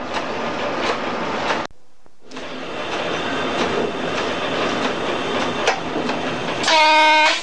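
A train rumbles steadily along as it pulls up to a red signal leading back towards Temple Mills East, with a brief drop in sound partway through, then a loud, steady, horn-like tone with stacked harmonics rises at the very end. No one speaks.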